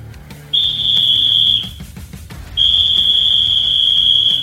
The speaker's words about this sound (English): Has he swallowed that whistle?